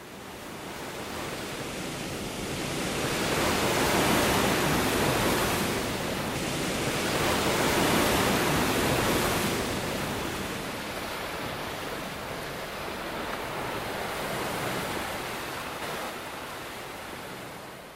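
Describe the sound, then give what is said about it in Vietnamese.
Ocean waves wash steadily onto a sandy shore late at night in broad, rolling surges that swell and recede every few seconds, a continuous hiss of surf with no voices. “Nhưng những ngọn sóng vỗ bờ đã xóa đi tất cả.”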